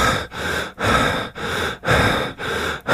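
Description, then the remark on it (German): Rapid, heavy breathing in a steady rhythm during holotropic breathwork, about six loud, noisy breaths in three seconds with brief gaps between them, without any talking. “Und auch wenn das holotrope Atmen für gesunde Menschen im Grunde kein Gesundheitsrisiko birgt, es gibt gute Gründe, warum es unter professioneller Anleitung stattfinden sollte.”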